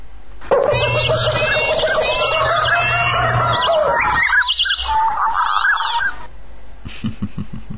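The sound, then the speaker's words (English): Downloaded birdsong files play back from a computer folder, a dense chorus of chirps and honking, goose-like calls with a low steady hum beneath, then cutting off abruptly before a short burst of scratchy calls. “But yeah, it's downloaded all those songs. It's put them all in the one directory.”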